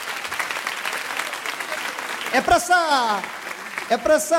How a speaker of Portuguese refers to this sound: Então, eu realmente peço uma salva de palmas, é para o SUAS.